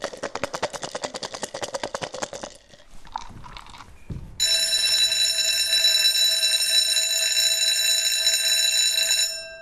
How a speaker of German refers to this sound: Jetzt ist Pause. Wenn es zur Pause klingelt, laufen wir schnell nach unten